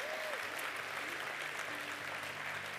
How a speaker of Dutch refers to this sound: En ik wil jullie vragen om een hard applaus voor de afdeling Leiden.